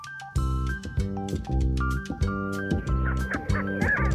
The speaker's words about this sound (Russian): Тетерев на петуха похож. И голос у него по-петушиному сдавленный и протяжный. Чуфы, чуфы.